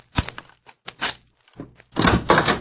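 A few sharp knocks on a wooden hotel room door in an irregular cluster, fairly loud, followed by a louder, longer rattling noise like the door being handled or opened.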